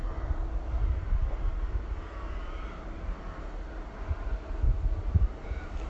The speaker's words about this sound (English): As you can hear, I'm in crow country now, and up until about 5 minutes ago I couldn't hear any trucks either, but they've now started, so the silence is broken.